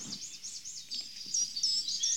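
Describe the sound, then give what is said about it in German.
A bird sings a quick, steady run of very high, thin, fine notes, each a small swooping chirp repeated over and over, sounding a bit odd, with no voices alongside it. “Ich höre jetzt einen Vogel, hör mal.”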